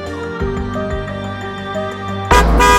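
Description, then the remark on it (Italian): A sudden, loud car horn blast bursts in near the end, cutting sharply over a bed of steady sustained tones. There is no talking. “Un improvviso colpo di clacson mi fa sobbalzare.”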